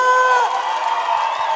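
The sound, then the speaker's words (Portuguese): An audience cheers loudly, with high whoops and shouts riding over a steady roar of crowd noise that holds for the whole moment without letting up. “Palmas”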